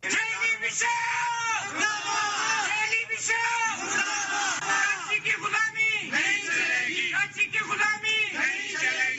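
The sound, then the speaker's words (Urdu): A crowd of protesters, including women, chants slogans in unison outdoors outside the Quetta Press Club, objecting to Balochistan's Christian churches being placed under a Karachi bishop; loud, with rhythmic shouted phrases repeating over a constant background of voices. “مظاہرہ شرکا نے اس موقع پر یہ نعرے لگائے.”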